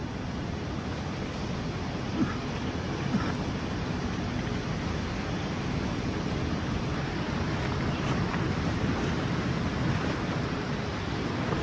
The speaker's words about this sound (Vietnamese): Thở vào và ra, tôi biết tôi đang ngồi tại bãi biển An Lộc.